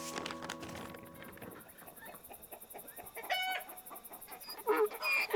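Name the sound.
rooster crowing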